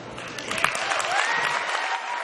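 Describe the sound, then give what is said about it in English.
Steady audience applause for a remark by Zuckerberg during his talk, a dense wash of many hands clapping at an even, moderate loudness, with a faint whistle rising through it partway. “So it gets the applause.”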